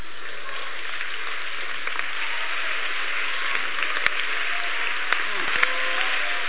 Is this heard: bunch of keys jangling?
no